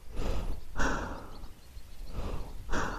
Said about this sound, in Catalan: Jo estava amagada a l'ombra de la paret exterior del túnel, amb la màscara antigàs preparada, sentint la meva pròpia respiració accelerada.